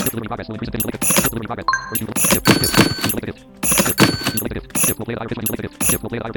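Bright, jingly menu clicks that ring like a sleigh bell, arriving in a series of short metallic bursts with brief tonal chimes over a busy, full background.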